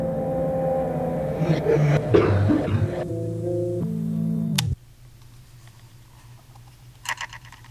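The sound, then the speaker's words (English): A steady droning, engine-like hum cuts off abruptly, and after a quiet stretch a single short cough sounds near the end, clear, with no talking. “Listen to the cough.”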